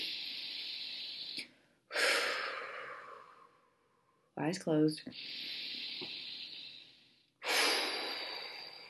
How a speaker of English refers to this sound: So if you're in a place where it's possible to close your eyes, we're going to take three deep breaths together in that embarrassing out loud breathing kind of way. Here we go.